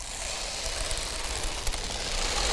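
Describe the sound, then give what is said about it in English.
A handheld sound disc instrument is moved around, producing a steady, hissing wash of noise like a waterfall. The rushing stays continuous and swells slightly toward the end, with no voices. “Makes like a waterfall sound.”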